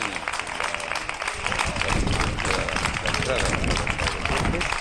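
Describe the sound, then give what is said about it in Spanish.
Steady applause from many people for health workers, done every day at this hour (8 o'clock), a dense crackle of clapping hands that grows fuller after the first second and keeps going at an even level, with voices mixed in. “Nosotros también aplaudimos a nuestros héroes todos los días a esta hora.”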